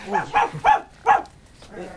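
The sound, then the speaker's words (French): A frightened dog, Milou, yelps in a quick series of about five short, high-pitched cries, fairly loud, with brief gaps between them and a softer final whimper, after being scared by Raskar Kapak. “C'est notre ami Raskar Kapak qui a effrayé votre chien.”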